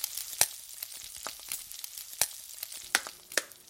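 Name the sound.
eggs frying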